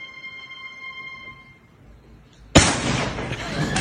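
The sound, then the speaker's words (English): What looks like three airbags burst under a bed's mattress in a prank, moving the mattress: one sudden, loud bang that breaks into a harsh, rushing hiss and keeps roaring to the end, after a quiet stretch with a faint steady tone. “And that looks like 3 airbags to get that mattress to move.”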